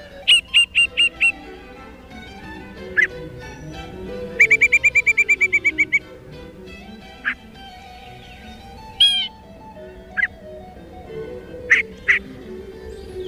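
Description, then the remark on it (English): A yellow-breasted chat, a bird about 7 inches long with a 10-inch wingspan, sings a jumble of varied phrases: quick repeated notes, a rapid chattering series, whistles and short harsh calls spaced apart, over soft background noise. “Here's the song and call of the yellow-breasted chat.”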